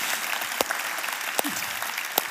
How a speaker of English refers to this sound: By the way, I got to have to let you clap for that one. So put your hands together for them.